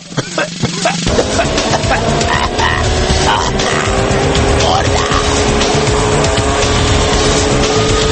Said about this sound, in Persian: برخشید من از وسط یک عالم دوده شهری با شما حرف میزنم، الان یه ماشینی که از فرط داغونی به جای دود گاز خردل تولید میکرد از اینجا رد شد.